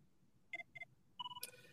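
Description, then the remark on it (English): A phone rings with an incoming spam call, a short electronic ringtone: two quick bright beeps, then a longer two-note chime that ends in a brief burst. It is clear, with no talking. “I'm getting a spam call right now, so okay.”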